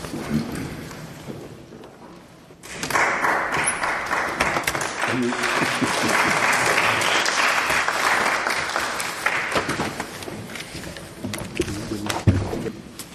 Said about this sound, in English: Are you clapping because I managed to get here with the crutches?